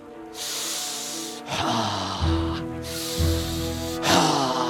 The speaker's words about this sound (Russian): Я ударил пальцем в диафрагму, чтобы изменить дыхание. Изменить дыхание? Позволь продемонстрировать энергию моего высвобождаемого дыхания.